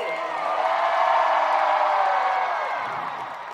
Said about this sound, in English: You know how Tinkerbell will die if you don't clap for her? Do you want me to die? Scream for me!